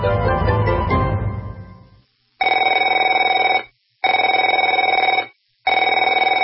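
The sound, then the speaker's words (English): A telephone rings in repeated bursts: a fading ring followed by three steady, loud trilling rings separated by short silences, bright and mid-pitched. “Afraid to answer it?”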